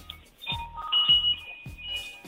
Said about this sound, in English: And that sounds like a lovely wind chime behind you. Is that good luck wind chime?